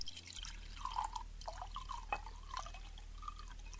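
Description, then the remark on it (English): Wine from a newly opened bottle splashing and gurgling as it is poured into glasses, with a run of soft, bubbly glugs and light drips rising in pitch over a low steady hum, no one talking. “No, I mean, do you want more wine?”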